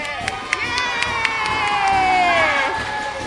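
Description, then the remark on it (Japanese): A crowd of children from the 味の小学校 elementary school cheers and shouts together in a sustained, high-pitched roar, with a few sharp claps or whoops popping out over the steady excited noise. “味の小学校のみんな大盛り上がり。”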